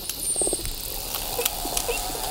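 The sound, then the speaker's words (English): Underwater bottlenose dolphin sounds recorded by underwater listening devices in New York Harbor while the dolphins feed: a thin high whistle sweeps near the start, then scattered sharp clicks and brief buzzy bursts pop over a steady hiss of background water noise. “Scientists with the Wildlife Conservation Society deployed underwater listening devices around the New York Harbor to learn more and picked up these whistles, clicks, and buzzes.”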